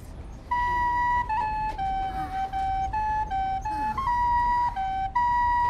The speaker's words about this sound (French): Maman, j'entends le chant des oiseaux de nuit. C'est ma flûte que tu entends. Je vais jouer plus doucement. Doudou est bercé par le son mélodieux de la flûte.